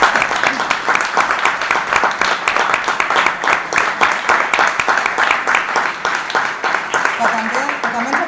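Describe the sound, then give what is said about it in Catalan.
A crowd breaks into sustained applause for the young members of the JNC present, dense overlapping clapping that stays loud and steady for about eight seconds, with a voice starting to speak over it near the end. “de comptar amb els joves, amb la JNC, que avui ens acompanya, que tenim un superplanter, els podem aplaudir, si tant per moment.”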